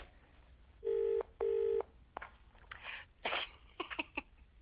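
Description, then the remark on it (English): A telephone number is dialed to call a vet: two long, loud electronic beeps followed by a quick run of sharp clicks and short bursts, with no talking. “I better phone and apologise.”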